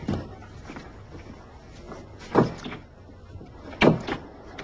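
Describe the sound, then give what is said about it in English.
Someone tries a locked door, jerking at it in two sharp rattling bursts with small knocks trailing after each, against a low hum. “Why is the door locked?”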